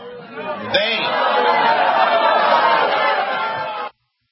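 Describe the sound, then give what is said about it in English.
A large crowd at a rally roars and cheers in a sustained, dense wash of voices, swelling sharply after a moment and holding loud for a few seconds before cutting off abruptly. “All right, you heard the crowd, so certainly there's some backing still there.”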